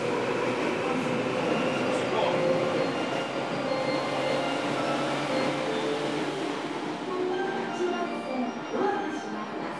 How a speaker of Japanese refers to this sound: ご利用いただきましてありがとうございます。この電車は地下鉄日比谷線直通各駅停車中目黒行きです。